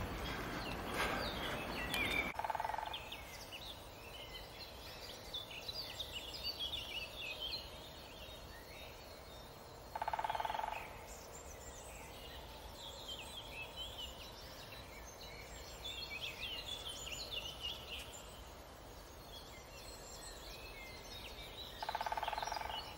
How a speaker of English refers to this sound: You hear the woodpecker with the jackhammer? This is how I wake up. It's quite a rare animal nowadays. I'm so glad to hear this.